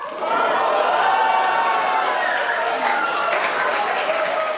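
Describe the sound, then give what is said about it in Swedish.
A crowd erupts in loud, sustained cheering and excited shouting as the permanent secretary announces the 2016 Nobel Prize in Literature during a live broadcast, a dense wall of overlapping voices and some clapping that holds steady for several seconds without letting up. “Sällan har den ständige sekreteraren nog möts av så mycket glädje och jubel.”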